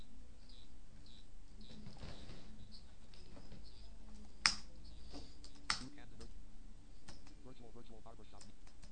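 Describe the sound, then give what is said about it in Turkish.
Steady typing on a computer keyboard clatters along, with irregular bursts of key taps and a couple of sharper clicks, under a faint low hum and occasional murmured speech. “Hocam şu an klavye sesini falan duyuyorum ha.”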